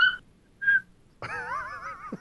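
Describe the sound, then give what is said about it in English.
A female dog that needs to go out sits staring at her owner and vocalizes with two short high-pitched yips, then a longer, loud, wavering whine-like "raw" that bends up and down in pitch before stopping abruptly. No one speaks. “She'll sit in front of me, go raw, raw, and like half the time she'll yawn while she's doing it.”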